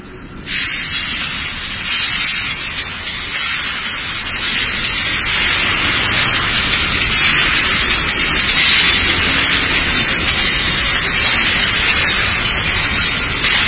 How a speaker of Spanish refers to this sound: estoy escuchando, pero en una sala hay unos parlantes que reproducen ruido blanco de una manera aleatoria, la parte del cielo raso, que utilizaron